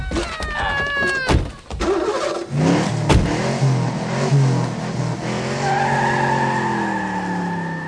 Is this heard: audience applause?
no